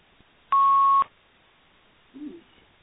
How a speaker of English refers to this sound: you seem to have beeping on your line.